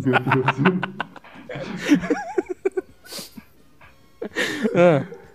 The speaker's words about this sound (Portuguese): O cão tá se manifestando.